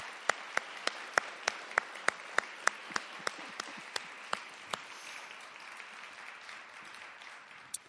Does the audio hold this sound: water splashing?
no